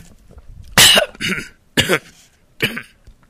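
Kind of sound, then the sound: human body sound, coughing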